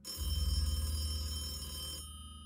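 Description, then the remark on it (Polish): A single long telephone ring, a loud buzzy, rapidly pulsing tone lasting about two seconds and fading slightly toward the end, as detectives receive a call from a hospital, with no voices. “Gdy wydawało się, że sprawa stoi w miejscu, bo nikt nie potrafił potwierdzić tych plotek, detektywi otrzymali zaskakujący telefon ze szpitala.”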